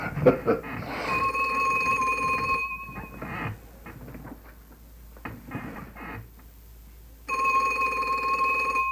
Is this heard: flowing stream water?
no